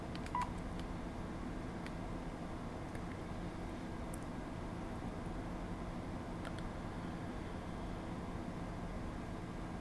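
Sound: landline telephone dialing tones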